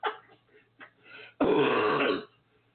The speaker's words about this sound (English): Excuse that cough.